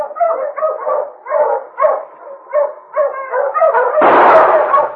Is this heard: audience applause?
no